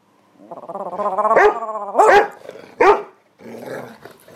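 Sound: dog barking and growling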